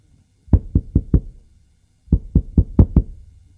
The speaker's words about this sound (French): On a frappé à la porte.